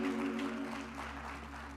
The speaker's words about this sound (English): Come on, clap your hands.